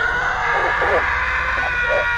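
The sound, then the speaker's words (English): A loud, harsh scream from the moor blends with a few rough, menacing hound barks in short bursts, all over a dense, noisy background that fills the whole moment. “They hear another scream, mixed with a sinister bark.”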